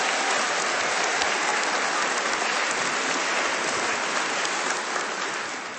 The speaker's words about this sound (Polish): mocne, rzęsiste i solidne oklaski dla gospodarzy dzisiejszego spotkania